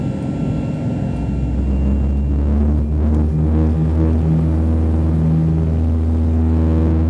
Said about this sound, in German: Das Flugzeug beschleunigte und als Paul die verwitterten Markierungen an sich vorbeiflackern sah, schloss er die Augen.